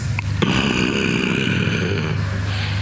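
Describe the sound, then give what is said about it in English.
A voice imitates a long, rattling snore, a steady low buzzing rasp held for nearly three seconds, fairly loud, with no other talking. “He slept. He was even snoring.”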